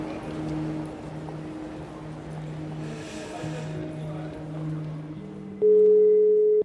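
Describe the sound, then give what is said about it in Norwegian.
A phone call's ringing tone sounds once near the end, a loud, steady electronic beep lasting about a second, after several seconds of low droning hum with no talking; the call is placed at Oslo Central Station after arriving by train. “Da det antageligvis noe som skjer, så da skal vi ta oss og ringe han.”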